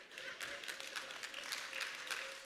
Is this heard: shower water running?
no